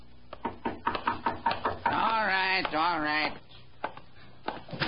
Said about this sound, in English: A tall, slim man, about 40, had been sitting in the front parlor of his rooming house. He'd heard a knock at the door, and he was on his way to answer it.